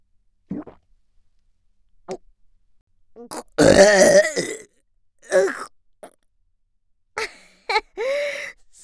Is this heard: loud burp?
yes